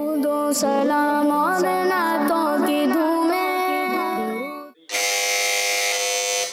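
A bright electronic jingle of shifting tones plays for several seconds, then cuts to a loud, harsh game-show buzzer, pressed first by Team B in a poetry quiz round, holding one steady, raspy tone for over a second. No one speaks.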